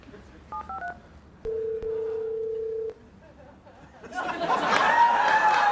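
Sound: touch-tone phone dialing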